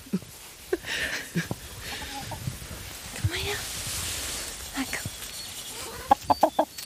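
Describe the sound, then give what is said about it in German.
A flock of hens clucks and murmurs all around, with scattered short calls throughout and a quick burst of sharp, repeated clucks near the end over a soft ambient background. “Es war schön, so mitten Mang in der Schar zu sitzen, die Hühner zu beobachten.”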